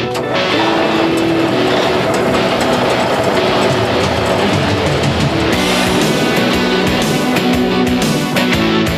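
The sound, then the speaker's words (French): A loud vehicle engine is started for take-off, a dense mechanical rumble with whining tones that holds steady for the whole stretch, its pitch and texture shifting partway through. No one speaks. “On décolle pour Saint-Jacques-de-la-Lande, allume le moteur !”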